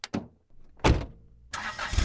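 A couple of quick clicks and a thud as someone gets into the car, then a car engine cranks and roars into a loud, steady rumble. No one speaks.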